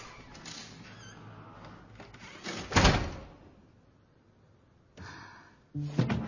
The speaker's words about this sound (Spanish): Marisol cierra la puerta.